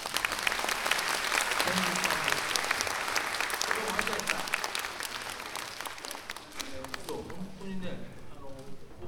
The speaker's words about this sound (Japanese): そのくらい難しい曲をね、よくぞ吹いてくれました。もう一回拍手を。